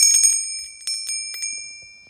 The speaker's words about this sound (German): Bis dann irgendwann endlich leise, aber deutlich, das Klingeln einer Glocke zu hören war.